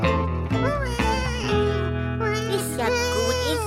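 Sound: baby crying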